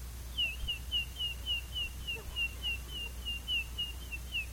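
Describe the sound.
A voice imitates a baby chick with a rapid, steady string of thin, high peeps, about three per second, fairly faint over quiet background hiss.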